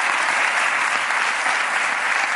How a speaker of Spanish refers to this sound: Un aplauso para Mikel Rico, que está el tío ahí.